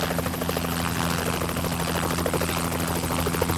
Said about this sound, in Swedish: En helikopter är snart på plats och fångar upp människor i en korg.